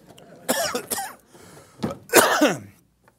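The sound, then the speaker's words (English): A few harsh coughs in quick succession, then a pause and a longer rasping cough that trails into throat clearing. No one speaks. “All right, I was trying not to use a cough drop, but the cough drop is now being deployed.”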